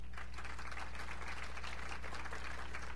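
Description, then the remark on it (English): A game show studio audience applauds on cue from a held-up applause sign, a steady wash of many hands clapping at once that holds at an even level for the whole stretch, with a low constant hum underneath and no voices. “And what is asked of the studio audience then is to applaud. So let's hold up the applause sign.”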